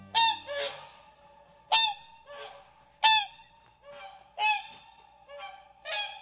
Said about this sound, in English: Swans like this Hooper swan are impressive animals. They're among the largest flying birds around today.